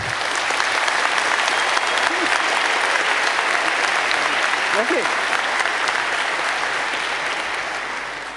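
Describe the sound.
A crowd claps steadily and loudly for several seconds, a dense, even wash of applause that tapers slightly at the end, with a brief spoken word breaking through near the middle.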